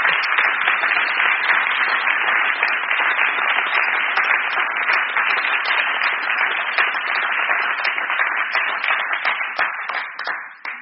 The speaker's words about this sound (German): Und ich denke, du hast dir einen großen Applaus verdient. Danke. Danke. Dankeschön.